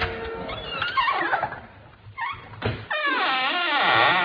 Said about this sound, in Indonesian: Aku pun membuka pintu ruangan itu.